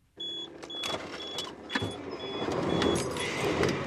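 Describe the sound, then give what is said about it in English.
Outdoor vehicle ambience at a truck stop just outside Laramie, Wyoming, with a steady engine rumble, scattered clicks and thumps, and faint repeated high-pitched beeps, building slightly in loudness; no one speaks. “at a truck stop just outside of Laramie, Wyoming.”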